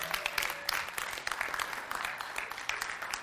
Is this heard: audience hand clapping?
yes